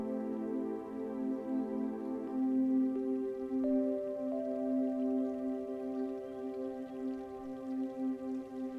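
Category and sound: nature, flowing stream water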